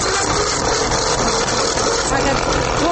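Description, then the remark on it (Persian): A Chinese-made knife-sharpening grinder machine runs steadily and loudly, its motor giving a continuous dense whir and hum with a slight rattling vibration throughout. “صدای ماشین اول میشه که بر ما بلند کنین و بشنویم؟”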